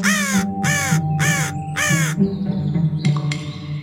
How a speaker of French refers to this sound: Nous sommes toujours dans le Maine-et-Loire, à côté de Savenières, on n'est pas très loin d'Angers. Je suis toujours un oiseau très commun, un corbeau, un corvidé, au Centre de Recherche et de Protection des Corvidés de l'association CroLife.